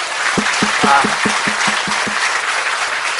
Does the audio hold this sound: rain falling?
no